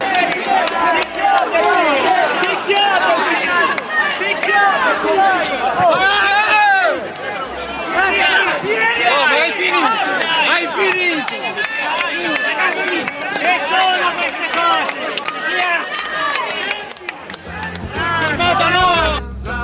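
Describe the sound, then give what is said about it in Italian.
A loud brawl among parliamentarians involving a former spokesman of Franceschini: many agitated voices shout and yell over one another in a constant, overlapping din, with a brief dip in the uproar before it swells again. “E poi la rissa in cui è coinvolto l'ex portavoce di Franceschini,”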